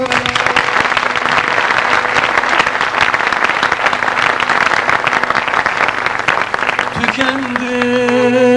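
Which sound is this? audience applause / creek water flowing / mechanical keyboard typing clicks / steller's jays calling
audience applause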